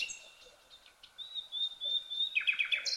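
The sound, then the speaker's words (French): Wild birds chirp in quick, high-pitched bursts, with a rapid trill of repeated notes growing louder toward the end; no voices, just the birdsong against a quiet outdoor background. “Après, il y a le jet des bois. Après, il y a la tourterelle sauvage.”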